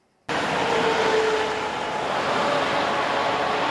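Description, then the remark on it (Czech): A steady, dense roar of motorway traffic on the ring road around Prague, Czech Republic, in the morning, rushes past without pause, a broad wash of tire and engine noise with a faint tonal whine riding through it, loud. “Je to dálniční srdce Česka, okruh kolem Prahy. Auta po něm proudí pořád a s tou největší hustotou provozu v zemi.”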